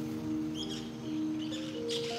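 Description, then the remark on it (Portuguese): Macaws call in a few short, harsh bursts, moderately loud, spaced out over a couple of seconds above a steady low electrical hum, with no one talking. “Tá ouvindo as araras?”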